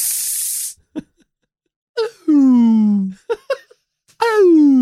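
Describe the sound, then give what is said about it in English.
A machine being worked gives a loud, steady burst of hissing like an espresso machine's steam that lasts under a second, then stops abruptly and gives way to several drawn-out, falling moan-like vocal tones. “It sounds like an espresso machine.”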